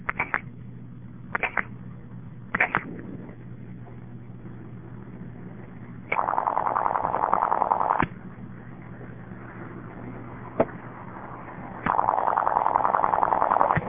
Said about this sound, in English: And that's all I can get to do now, is just dial numbers and it'll ring.